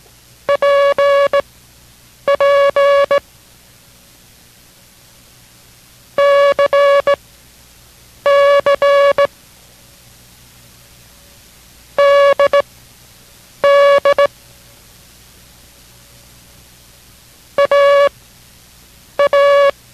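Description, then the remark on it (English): A Morse code practice group for copying: characters tapped out in a steady mid-pitched tone, each one sent twice in quick pairs, with clear silent gaps between the pairs. No voices accompany the beeping. “Now we will send another group with the answers at the end of the group, but this time each character will be sent twice. Copy it only once, but concentrate on the sound each time.”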